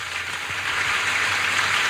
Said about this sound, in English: So, let's observe them. Applause for them.